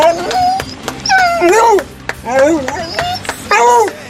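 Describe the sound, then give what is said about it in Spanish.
A dog, Nublo, joining the 8 p.m. applause for health workers, gives a run of high, wavering whimpers and short yelping barks, several rising and falling cries with brief pauses, over scattered sharp taps in the background. “también tienen ese agradecimiento perruno”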